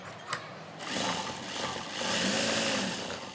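A sewing machine whirs steadily in a tailor's workshop on top of a family home in a Muslim slum in Ahmedabad. Its rapid mechanical chatter swells after a brief click at the start and runs continuously without any voices.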